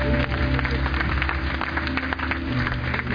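An audience claps steadily for about three seconds as a clap offering of thanks to God, a dense, loud wash of many hands with a sustained low musical hum underneath and no speech.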